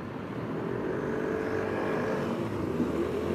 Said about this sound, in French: Donc à bord du Vespa électrique, vous pouvez entendre le bruit de la circulation, sans doute un peu le vent derrière vous. Mais est-ce que vous entendez un bruit de scooter? Moi, je n'entends absolument rien. On circule. Là, je suis à 30 km/h.